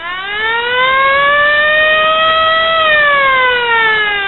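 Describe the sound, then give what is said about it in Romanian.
A loud, sustained alarm siren wails steadily, its tone rising slowly and then falling back, with no voices: a civil warning siren sounded by a policeman, blaring across a town to warn of an approaching flood. “Polițistul a dat alarma și, într-o clipă, tot orașul s-a deșteptat.”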